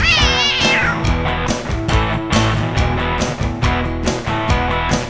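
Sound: cat meowing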